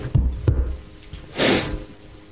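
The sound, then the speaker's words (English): A single harsh cough bursts out near the middle, fairly loud, after a couple of soft low thumps. Nobody speaks. “I got a cough, Justin. It's not going away.”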